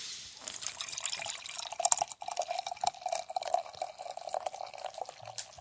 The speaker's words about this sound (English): There. That was a healthy pour.